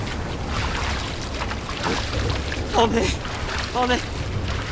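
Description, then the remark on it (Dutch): A rowboat moves through water, with a steady wash of sloshing and splashing throughout and a low rumble beneath. Two brief voiced calls rise over it toward the end. “Hier, in het water, in de sloep.”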